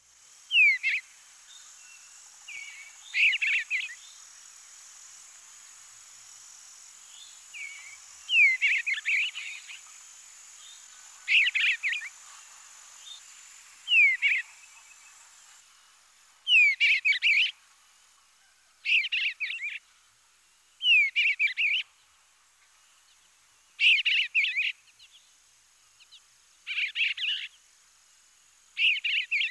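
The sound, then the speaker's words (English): An eastern bluebird sings its full song, a series of soft, warbled phrases with rich whistle notes repeated about a dozen times at a steady pace, clear against a quiet background. “The bluebird's flight note is a sweet whistle. Now let's hear the full song once again.”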